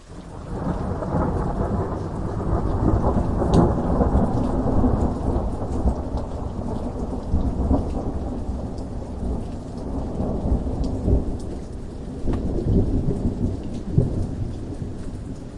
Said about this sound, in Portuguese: Com um movimento de varinhas, nuvens se formaram trazendo uma chuva gentil que alimentou cada planta.